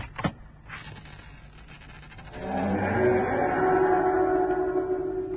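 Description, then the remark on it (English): A sharp click is followed by a long, drawn-out groaning creak as an old door of a dilapidated building slowly swings open, loud, stretching over several seconds with no talking. “I just felt a kind of foreboding as that door opened, that's all.”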